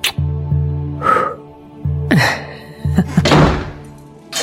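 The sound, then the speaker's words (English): A door thuds shut with several heavy knocks, followed by a scraping rattle and clicks like a bolt or lock being turned. No voices. “After locking the door, Gaunt turned round to face Hawk and Fisher”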